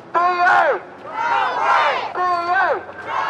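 A group of protesting British Airways cabin crew on an open-top bus headed for Heathrow Airport, London, shouting together in loud, drawn-out cries that rise and fall in pitch, coming in three or four strained bursts with barely a pause between them.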